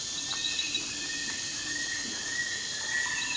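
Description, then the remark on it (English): A dense, steady wash of insect buzzing fills a lush rainforest ambience soundtrack, with thin whistling bird calls threading through at a moderate, even level and no voices. “Would you care to innovate in the depths of the lush rainforest?”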